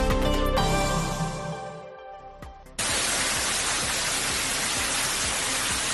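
A short musical jingle fades out, then water from a burst pipe, broken by heavy rain, abruptly starts cascading down to the ground floor of the hospital in Segovia, Spain, in a steady, loud rushing roar that continues without a break to the end.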